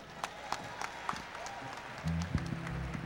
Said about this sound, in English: How about another nice round of applause for our dear, dear friends